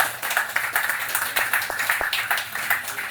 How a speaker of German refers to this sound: Wahnsinn. Ich glaube, auch das ist mal einen Applaus wert. Vielen Dank.